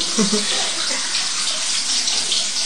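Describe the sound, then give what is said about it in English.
Running tap water splashes steadily over a lemon being washed, a continuous hiss with slight shifts as the lemon is turned under the stream. “I'm just washing the lemon lazily. Okay, you just spray vinegar solution around it, around the back. Yes, and wash it with water.”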